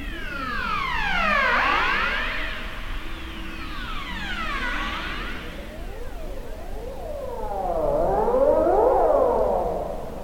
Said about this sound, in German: Das war jetzt eine Rossrobbe, die macht so Sirenengeräusche. Und es hört sich total komisch an, aber es sind tatsächlich also wirklich die Robben, die man da hört.